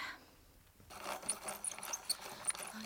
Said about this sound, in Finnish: Oho. Kuulkaa, voisitteko te teroittaa tämän lyijykynän? Selvä pyy.